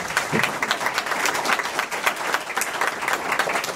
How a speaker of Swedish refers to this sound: Tack, där var den minuten slut, och jag tycker vi ger alla en applåd.